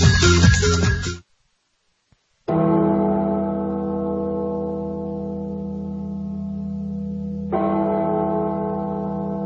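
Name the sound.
tolling bell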